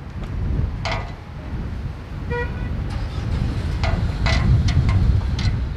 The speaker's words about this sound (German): Ein eisiger Wind fegt durch Amman.